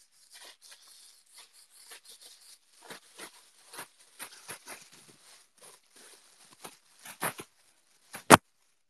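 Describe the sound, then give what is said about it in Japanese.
A black plastic bag crinkles and rustles in quick, irregular bursts, growing busier toward the end and finishing with one sharp, loud crackle. “黒いビニール袋がない。あった。”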